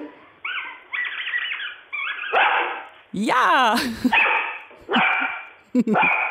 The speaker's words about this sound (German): Und wenn ich Emmy jetzt so ein bestimmtes Quietscheding gebe, dann könnte sie auch losbellen. Hast du das Quietscheding zur Hand? Ja. Bell mal.